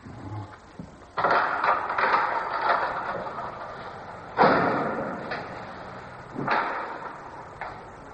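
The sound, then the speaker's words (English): A heavy door is worked open with a clunk of its mechanism, followed by a scraping, rattling sweep and two more sharp knocks. There is no talking. “Open the door”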